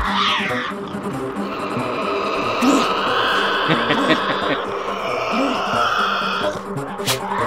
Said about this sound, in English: And as the night falls, little black shapes begin to creep out of the woods. You can hear them sniffing, and they'll find the roadkill. And then they just start eating and fighting with each other.